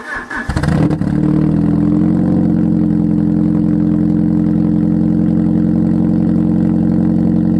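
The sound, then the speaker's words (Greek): A Fiat Barchetta car engine starts with a brief burst of cranking, then settles into a steady, loud idle with a low rumbling drone. No one speaks. “Ερχόμαστε στη Fiat Μπαρκέτα, που πολύ σωστά επέλεξες.”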